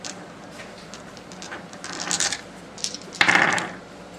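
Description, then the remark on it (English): Dice clatter and tumble across a hard tabletop during a tabletop game in a couple of quick rattling bursts, the second one louder and sharper with a bright clicking ring, with no talking. “You rolling for a dragon?”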